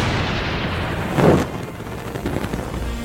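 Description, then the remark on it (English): A single sharp, booming crack of thunder as lightning strikes a house bursts out over a steady low rumble, then fades back into the continuous rumbling noise. No voices are heard. “Oh, the lightning just hit another house.”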